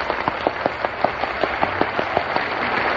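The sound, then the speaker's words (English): Audience applause for lyricist Gus Kahn: a steady wash of clapping with sharper, evenly spaced claps standing out in a quick rhythm, holding at a moderate level throughout with no voices. “Oh, Frank, that applause wasn't for you.”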